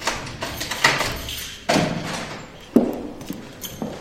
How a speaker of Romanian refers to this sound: Vizita mea la Muzeul Municipal din Alkmaar a avut loc înainte de vernisajul expoziției, așa că ușile au fost descuiate special pentru mine.